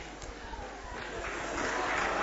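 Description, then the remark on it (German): A patch of applause, a dense crackle of many hands clapping that gradually swells louder over a couple of seconds, with no voices over it. “Wer klatscht denn da Beifall?”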